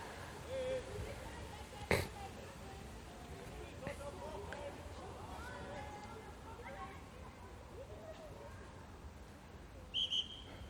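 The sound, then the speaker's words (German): A short, shrill referee's whistle blast sounds near the end during a children's football match, heard over a steady outdoor background of voices and field noise, with a sharp knock early on. “So, jetzt gab es ein bisschen Konfusion, weil die Kinder nicht gehört haben, dass der Schiedsrichter da gepfiffen hat.”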